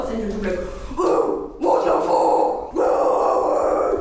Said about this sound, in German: Schreien klingt sehr anders, wenn ihr euch traut, den Mund zu öffnen. Wenn ich es so mache... Wenn Metal-Sänger tief und laut knurren, machen sie ihren Mund sehr eng.